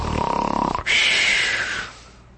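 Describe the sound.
A man's voice imitates a snore: a rattling, fluttering inhale followed by a long, breathy, hissing exhale. It is a single, fairly loud snore with no talking.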